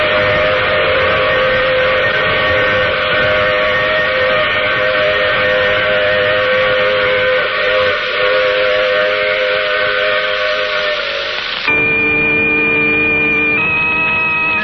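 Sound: steam train whistle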